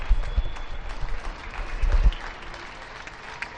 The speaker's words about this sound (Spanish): Hasta ahora España está citada, cada uno desde su domicilio, a aplaudir al personal sanitario que tanto está haciendo estos días por nosotros.